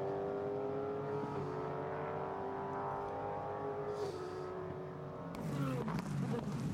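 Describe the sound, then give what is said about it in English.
Sports prototype race cars in an IMSA race roar past on a track, engines holding a steady high whine with harmonics that shift as they pass, then a louder, rougher surge near the end as another car goes by. “Sights and sounds of IMSA.”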